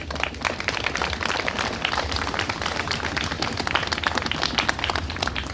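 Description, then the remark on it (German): A crowd applauds steadily, dense overlapping hand claps forming a continuous, fairly loud wash of sound without pause, with no voices standing out. The applause is for the cultural life of Ipse in the eastern Altmark. “Dafür erst nochmal an dieser Stelle ganz, ganz, ganz großen Applaus.”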